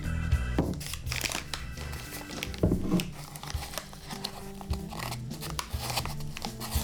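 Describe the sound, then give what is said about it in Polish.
Paper rustling and crinkling while four cups of flour pour directly from a paper bag, a soft, continuous hissing patter broken by a few sharper crackles of the paper. “Nie lubimy sypować mąki, bo wtedy się tak beznadziejnie. Bezpośrednio z torebki to tak.”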